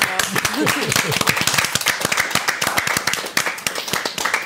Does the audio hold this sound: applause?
yes